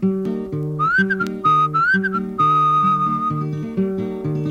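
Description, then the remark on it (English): A bird call imitated by whistling: a steady, mid-high whistled tone with small upward chirps and glides, held over a loud, rhythmic accompaniment of low, stepping notes. No one speaks. “Well, I had me a bird, and the bird pleased me, and I fed my bird under yonder tree, and the bird went.”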